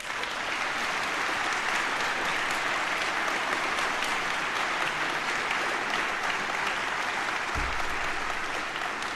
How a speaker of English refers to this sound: Everything we did here would not have been possible without our sponsors, so please give them all a warm round of applause.